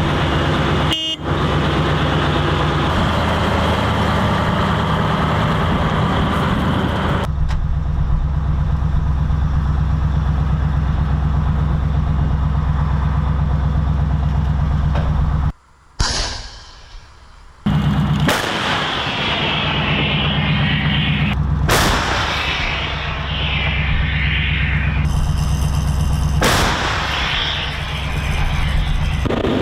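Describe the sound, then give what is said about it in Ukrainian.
A heavy engine rumbles loudly and steadily for several seconds as an artillery gun drives out from Norkha to travel about a kilometre, then a sudden sharp cut and a series of powerful blasts break through as the gun fires, amid ongoing vehicle noise. “Ми засікали виїзд гармати, це саме більше, це з Норхи, там проїхати кілометр і відпрацювати це 11-12 минут.”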